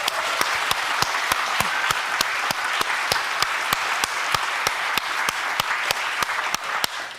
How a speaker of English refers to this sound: Let's give it a big round of applause to the game team.